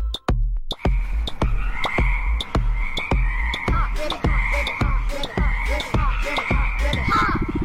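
A frog croaks in a steady, rapid series of loud pulses, with a constant chorus of chirping frogs or insects behind it.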